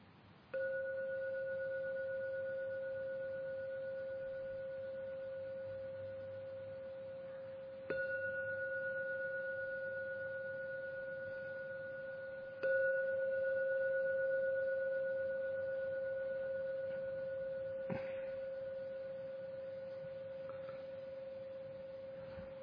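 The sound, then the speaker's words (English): A meditation gong is struck three times to end a meditation, each strike renewing a steady, humming ring with a clear mid-pitched tone that sustains and slowly fades between strikes. No one speaks. “I will now ring the gong 3 times as usual.”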